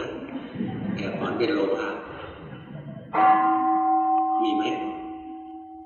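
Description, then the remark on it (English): A meditation gong is struck once partway through, its loud, clear tone ringing on and slowly sustaining to the end. Murmured voices are heard before the strike. “Let's listen to the gong.”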